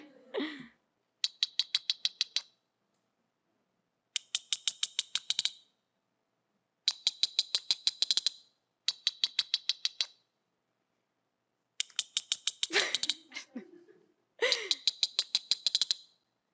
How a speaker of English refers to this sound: So very different than the dolphin, right? These are still toothed animals. They're not dolphins, though. So they just make clicks, these echolocation clicks.